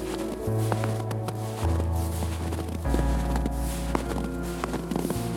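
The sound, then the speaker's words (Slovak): Steady footsteps crunch across icy snow at an even walking pace, fairly distinct, set against a low, sustained droning musical tone. “Každým krokom po zľadovenom snehu som sa snažil dodať si viac odvahy.”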